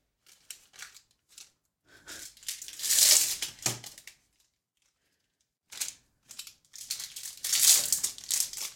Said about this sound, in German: Vielleicht holst du sie schon mal alle aus der Packung, damit es nicht knistert, wenn du sie gleich währenddessen isst.